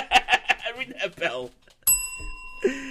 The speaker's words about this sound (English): That bell. So we get rid of that, thank God.